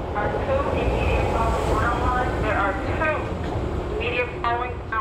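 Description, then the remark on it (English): A Chicago L commuter train rumbles past the crowded elevated Fullerton stop platform on Chicago's north side around 5:15 on a Monday afternoon, with a loud, steady roar. Its heavy low clatter fills the scene while indistinct voices mingle over the din. “Each train car that passes looks fuller than the last.”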